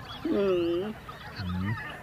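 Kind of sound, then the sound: bird, waterfowl calling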